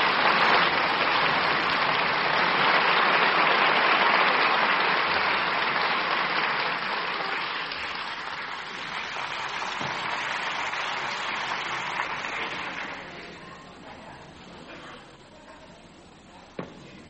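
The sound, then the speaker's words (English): A large audience at an awards ceremony applauds steadily after The Red Balloon by Albert Lamorisse is announced as the winner, a dense wash of clapping that stays loud for several seconds before gradually thinning and fading out, with no voices over it. “I'm sorry I was taken away with the applause.”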